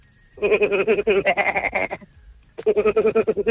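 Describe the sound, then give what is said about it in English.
A person imitates a goat, giving two long, quavering bleats with a rapid wobble, loud, separated by a brief pause. “I think that's a local KZN. Goats slash sheep. Goat.”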